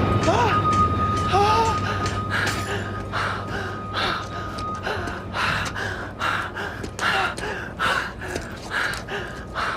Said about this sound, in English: He's drumming on stage when it happens. He leaves the stage, runs outside gasping for air.